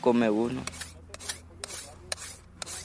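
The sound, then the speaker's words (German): A field worker sharpens the broad blade of a machete with a file, rasping in about five steady, evenly spaced strokes, fairly loud, after a brief voice at the start. “Alle 3 Stunden müssen die Feldarbeiter die breiten Klingen ihrer Macheten schleifen. Dafür bekommen wir eine Feile.”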